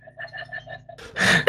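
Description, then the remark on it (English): A short run of soft voiced sounds gives way to harsh, loud coughs bursting out in quick succession and ending abruptly. “Sorry for coughing, guys.”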